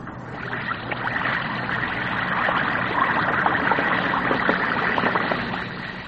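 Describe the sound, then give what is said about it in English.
A steady, busy fizzing hiss with countless tiny crackling pops from an Alka-Seltzer tablet dissolving in water, holding even for about six seconds with no voices. “That's the Alka-Seltzer fizz.”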